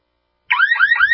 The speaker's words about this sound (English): Your home alarm works after an intruder is inside your home, but real home security begins before intruders enter.